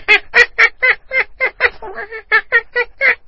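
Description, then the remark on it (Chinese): A person imitates a little monkey's call for the Year of the Monkey with a quick, loud run of about a dozen high, harmonic chattering bursts, evenly paced with a brief wavering pause in the middle. “一个猴年，哦，猴年这太容易了，是这样子的， 小猴子。”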